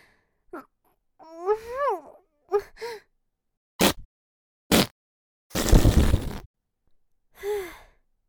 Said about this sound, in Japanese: 出ちゃった。最悪の一発。箱の中に注ぎ込んじゃった。絶対今までで一番のおならだったわ。今のおなら。お尻の穴が今もじんわりあったかくて、とんでもない量のガスがお腹から抜けていく感じ。